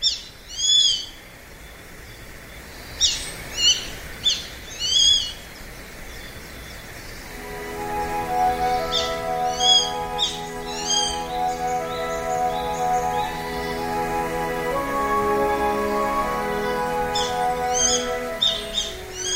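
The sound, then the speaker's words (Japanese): Grey-faced buzzard calls ring out as clear, high whistled cries in short repeated bursts at the Egawa rice paddies in Noda, Chiba Prefecture, Japan, first alone and then continuing over soft, sustained music that enters partway through. “今朝は千葉県野田市の江川田んぼからサシバの声をお届けしました。”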